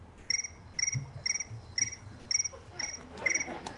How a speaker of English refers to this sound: that is not a locust in Egypt. That is Frank's cricket saying it's time to stop